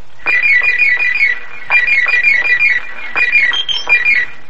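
A telephone rings in three loud electronic trilling bursts, each warbling rapidly for about a second with short pauses between, and no voices present.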